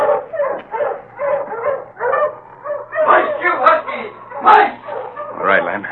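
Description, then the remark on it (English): A pack of husky sled dogs on a trail in the cold barks and yips excitedly in a dense, overlapping chorus, steady throughout, with a low hum running underneath. “Come on before them dogs run off. Ho, you huskies!”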